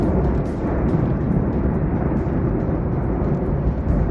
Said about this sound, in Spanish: La luz que emite la lava permite contemplar la inmensa columna de humo que genera. Se dirige hacia el mar gracias al viento que sopla hacia esa dirección. Un volcán que, da igual en qué momento sea, no cesa su actividad. Así suena a esta hora.